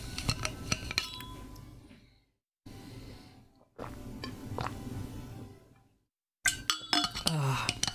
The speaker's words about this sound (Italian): Vabbè, mo mi bevo un po' d'acqua, poi vi parlo dell'ultimo film.